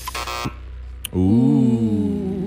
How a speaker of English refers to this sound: That was too late. That was an abrupt buzzer.